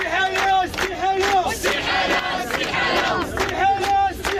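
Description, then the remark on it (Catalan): A large crowd of protesters in the capital chants slogans in unison, calling for the dissolution of Parliament and an end to corruption, voices rising and falling in a steady rhythmic cadence with repeated shouted phrases, loud and continuous throughout. “El crit des de la capital.”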